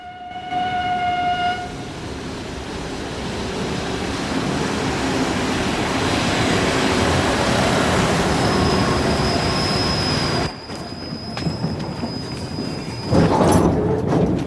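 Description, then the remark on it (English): At night, a train rumbles loudly into a station near a town, wheels grinding steadily along the rails, with a long high brake squeal building midway and a brief horn-like tone at the start, no voices. “It's nighttime, and a train pulls in at a station near the town.”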